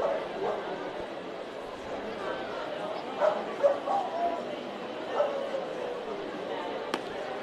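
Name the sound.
dogs barking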